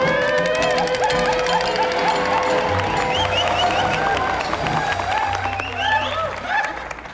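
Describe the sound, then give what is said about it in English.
A crowd of several thousand people roars with cheers, whistles and shouts over dense applause, loud and sustained for several seconds without a break. “There were about several thousand people blowing their tops in our behalf tonight, and we appreciate you.”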